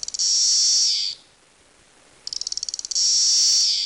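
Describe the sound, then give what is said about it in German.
Loud, shrill buzzing of periodical cicadas (Magicicada), which come in 13- and 17-year broods, in two long bursts separated by a brief lull; the second begins with rapid stuttering pulses before settling into a steady, droning whine. “Insgesamt gibt es 7 verschiedene von diesen periodischen oder auch magischen Zikaden, Magizikada.”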